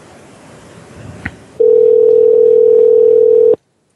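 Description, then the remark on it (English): A steady, loud landline dial tone hums for about two seconds after some faint handling noise and a click, then cuts off abruptly. “No, this should be a landline.”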